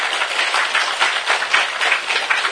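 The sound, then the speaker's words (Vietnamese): Steady applause from an audience fills the moment, many hands clapping in a dense, continuous patter at moderate loudness with no voices over it. It comes from an audience at a Buddhist dharma talk, welcoming attendees who came from Washington DC, Virginia, Maryland, Baltimore, North Carolina and Canada. “thì chúng ta cho một tràng pháo tay để hoan nghênh tinh thần học hỏi của các vị.”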